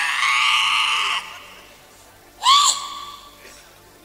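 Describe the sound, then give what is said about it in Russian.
A woman screams in high, strained wails during an exorcism: one long sustained cry, then after a short pause a sharp shriek that bends in pitch, followed by fainter cries, loud. “Видите, демоны кричат, что она принадлежит.”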